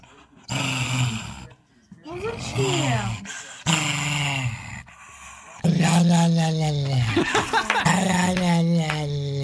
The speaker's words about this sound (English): over the dog's mouth and almost works it like a puppet, but the dog is growling, and then the the owner is mouthing the words, going rah rah rah.